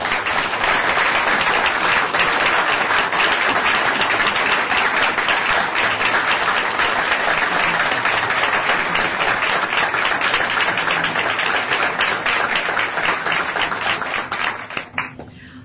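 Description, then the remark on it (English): Sustained applause at a council meeting saluting council members for their service, a dense, steady wash of many hands clapping at even loudness for about fifteen seconds before tapering off abruptly at the end. “I think we will have an opportunity to meet with all of you later, but I'd like to salute you all with a round of applause.”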